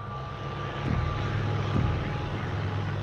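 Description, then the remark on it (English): An Allied bomber aircraft of late 1941 drones steadily overhead, its deep engine roar constant and fairly loud for the full few seconds, with a faint high whine running through it. “Bombs are released from a plane and explode on the ground.”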